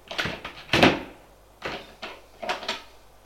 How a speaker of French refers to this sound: Arrivés en bas, ils suivent un petit couloir où il y a des portes de caves. On ouvre une porte en bois, on les pousse dedans, puis on ferme la porte.